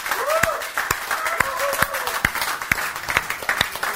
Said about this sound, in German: Gib ihm mal einen Applaus, gib dem Herrn einen mächtigen Applaus. Halleluja.